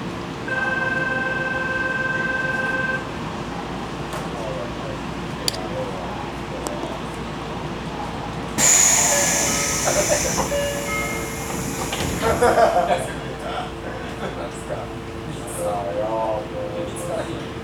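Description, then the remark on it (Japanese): A Tokyo Metro Chiyoda Line train departs Ayase Station: a steady electric hum and rumble, then a sudden loud hiss of released air, followed by rising motor whine and rattling wheels, with a voice speaking faintly underneath. “綾瀬駅まもなく発車いたします。”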